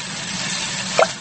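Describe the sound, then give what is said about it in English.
Warm soapy water for washing a car sloshes in a bucket with a steady wet swishing, then a brief splashy plop near the end. No one speaks. “Daddy Pig has some warm, soapy water to wash the car.”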